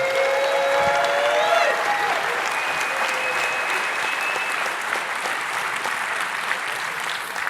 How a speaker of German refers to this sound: Macht mal einen unglaublich dicken Applaus